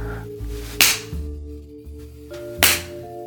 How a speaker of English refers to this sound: You pull up my dress, exposing my smooth bare ass, and you start to spank me hard.